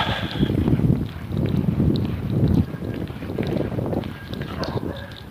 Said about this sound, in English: It's just a little bit of a breeze.